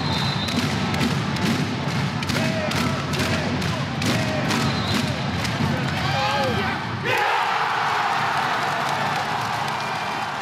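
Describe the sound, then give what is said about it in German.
A loud handball crowd in the PSD Bank Dome in Düsseldorf roars with rhythmic clapping and thudding, then surges into a sudden explosive cheer as the BHC (Bergische Löwen) score a last-second goal against the Rhein-Neckar-Löwen for a 25:25 draw, the roar sustained and overwhelming. “Der BHC holt in allerletzter Sekunde den Punkt und so klang ein großer Wurf der Erlösung.”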